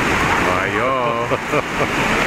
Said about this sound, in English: Listen to that rain.